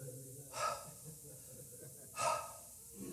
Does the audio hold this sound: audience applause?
no